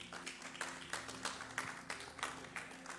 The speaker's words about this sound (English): Thank you very much, my dear. Clap for her.